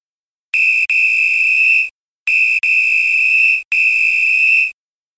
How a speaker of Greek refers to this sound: Σφύριγμα.